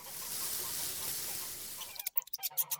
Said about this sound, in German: Schnatter, Achtung, kleines Gänslein, tu dir nicht weh.